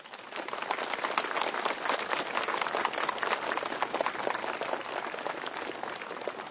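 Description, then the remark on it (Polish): A crowd at a regional meeting of children's rosary circles in Stoczek, near Czemierniki, in the Lublin archdiocese, Poland, breaks into sustained, dense applause to welcome Radio Maryja listeners. Many hands clap steadily at an even loudness for several seconds, with no voices standing out. “Są już z nami słuchacze Radia Maryja w Polsce, w Europie i na całym świecie, których witamy gorącymi oklaskami.”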